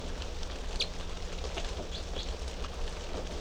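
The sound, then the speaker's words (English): Several short, high chirps from three type 3 birds in cage cell number 3 come through a steady hiss of background noise. The calls are brief and scattered rather than rhythmic, and no one speaks. “And these are the three type 3 birds in cell number 3.”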